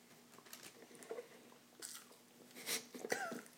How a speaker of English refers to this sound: That crunch of the fry, though, just totally added to it.